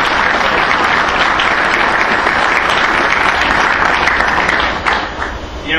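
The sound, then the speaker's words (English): A conference audience breaks into loud, sustained applause for Vince, a dense wash of many hands clapping at once that holds steady for several seconds before tapering slightly at the end. “So let's give Vince a round of applause.”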